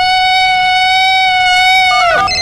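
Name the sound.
bigfoot call sound effect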